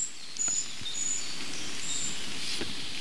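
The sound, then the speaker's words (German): Thin, very high-pitched calls of young birds, a few short drawn-out notes coming from at least two places almost at once, slightly offset, sounding faint over a steady background hiss like light rain. “Also ich sag mal, dieses hohe C, das klingt für mich fast wie Jungvögel.”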